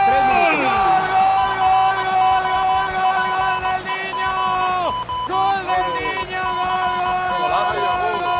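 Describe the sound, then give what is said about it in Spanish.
A huge stadium crowd chants Fernando Torres's name in unison, loud and sustained, voices rising and falling together with a brief dip midway before the chant swells again, at a special match marking his departure from Atlético de Madrid. “Grita Fernando Torres porque hoy es...”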